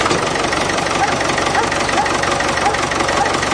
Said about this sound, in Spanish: Bueno, este es claramente el coche que tuve el año pasado, Ferrari. Ferrari. ¿Cuántos sí, caballos? Ahora, 550 caballos.